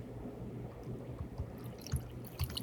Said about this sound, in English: You know, I wasn't going to finish this bottle, but here I am. Now that he poured it, we should end the show.